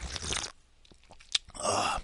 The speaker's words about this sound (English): And, I better sip some coffee, otherwise I'm going to just fall asleep.